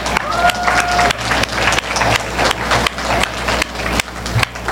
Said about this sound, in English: Let's get another loud round of applause for everybody who's been performing up till now, please.